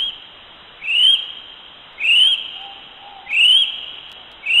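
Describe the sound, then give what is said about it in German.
A kiwi, a small flightless bird typical of New Zealand, gives shrill, rising whistled calls about four times in a steady rhythm, each one loud and clear against a constant faint hiss, with no talking. “Der Kiwi ist ein kleiner, flugunfähiger Vogel, der sehr typisch für Neuseeland ist, und so hört er sich an.”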